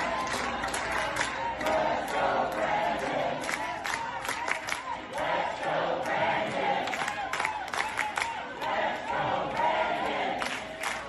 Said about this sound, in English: And then the crowd starts cheering and chanting, "Let's go, Brandon."